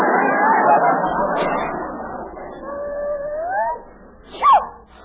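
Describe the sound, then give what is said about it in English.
A rushing, noisy stretch gives way to a dog's drawn-out, wavering howl that rises in pitch, followed by a short, higher whining glide, moderately loud. “Kathy, where did you put the dog?”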